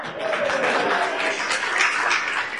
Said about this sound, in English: And yes, she won the race with the crowd yelling.